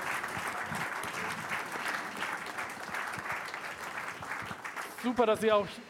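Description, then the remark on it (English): A crowd applauds all the participants at the end of round one of a quiz with dense, even clapping for about five seconds, then a person starts speaking over the fading applause near the end. “So, we are done with round one, and we'd like to have a big applause for all of the participants.”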